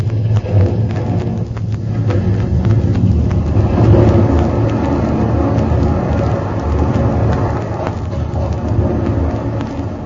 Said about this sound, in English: Hardly believe it. A good 30 feet of the island breaking off and crashing into the ocean.